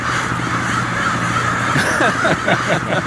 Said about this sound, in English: you have your hands full there with 10,000 crows descending upon the city this time of year. Good luck on the Crow Patrol.